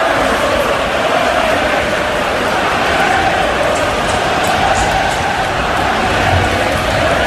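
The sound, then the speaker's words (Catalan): A large crowd of jumping supporters chants "a por ellos" in a dense, continuous roar of many voices, loud and steady for the whole stretch with no single voice standing out. “Crec que s'entén perfectament el crit de por ellos, a por ellos.”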